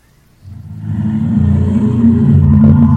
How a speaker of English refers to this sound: Like a motorcycle.